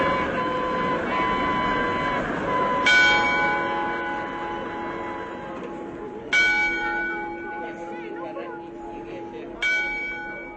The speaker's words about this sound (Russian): Часы на городской ратуше бьют отмеренное количество часов.